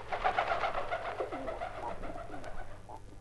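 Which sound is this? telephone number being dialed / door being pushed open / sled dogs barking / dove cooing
dove cooing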